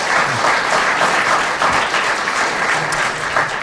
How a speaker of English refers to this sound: The uneven applause there was not because they didn't wish to clap for Derek Nimmo, I'm sure. It was just because they thought he didn't deserve it for such a small contribution